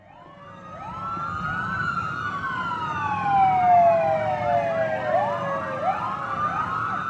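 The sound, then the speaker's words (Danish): A police siren wails continuously with rising and falling sweeps, loud, layered over the low rumble of a police patrol car speeding on an emergency call to Haninge, a suburb of Stockholm, Sweden. No one speaks. “Mens betjentene i fuld udrykning ilede mod gerningsstedet”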